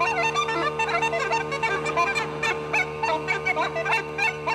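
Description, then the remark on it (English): Uilleann pipes play over a steady drone, the chanter yelping and wailing in quick overlapping bursts to mimic several hounds baying together, loud and continuous with no voices. “Few dogs together.”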